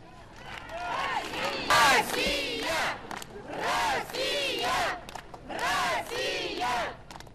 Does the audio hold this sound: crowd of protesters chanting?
yes